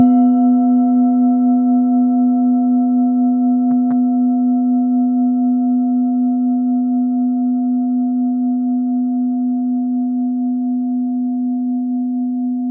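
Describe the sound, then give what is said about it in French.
A 1.1 kg Super Bowl Full Moon singing bowl struck with a mallet rings out in a loud, steady low hum in B-flat with a clear higher overtone, sustaining without fading, interrupted only by one brief knock partway through. “1 kg 100 pour ce Super Bowl Full Moon. On l'écoute tout de suite. Frappe Mayoche.”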